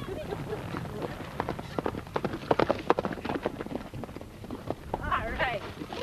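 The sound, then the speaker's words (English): Horses' hooves clop on a hard surface in a steady, uneven walking rhythm as riders walk their horses back to their stalls, fairly loud, with faint indistinct voices and shuffling toward the end. “As we walk our horses back to their stalls, I realize that despite my initial reservations, I have really enjoyed myself.”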